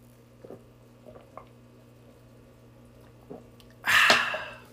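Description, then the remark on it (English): Someone drinks Mountain Valley spring water: a few soft, scattered gulps and mouth clicks, then a short, loud, breathy exhale of satisfaction at the end. “Oh, that's good water.”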